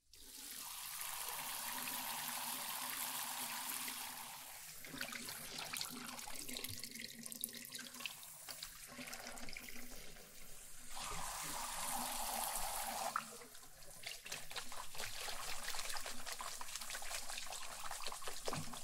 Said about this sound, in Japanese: じゃあ、今度はお湯をかけていくけん、泡が入らんようにしっかり目を閉じとってね。